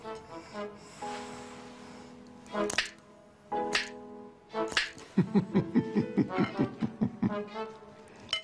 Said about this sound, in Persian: میتونی بشکن بزنی؟ نه دو دستی، بگو دو دستی بزنه داداش. میشه خواهش کنم دو دستی بشکن بزنی؟